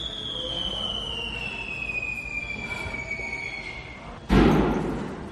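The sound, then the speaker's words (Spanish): A thin, high whine drifts slowly lower over steady background noise, then a single sudden, loud explosion of a Tesla SUV loaded with fireworks at a Trump-owned hotel in Las Vegas bursts out near the end and rumbles away without dying out completely. “Es la explosión de un todoterreno Tesla que estaba lleno de fuegos artificiales en un hotel propiedad de Donald Trump en Las Vegas”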